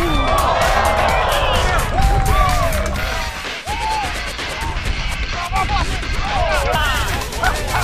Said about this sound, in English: We're back in pads for the second time in 24 hours Sunday and conducted a rare live tackling drill in Bourbonnais, and the pads were popping.